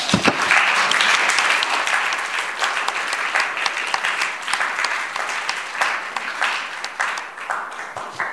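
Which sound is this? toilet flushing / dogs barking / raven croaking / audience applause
audience applause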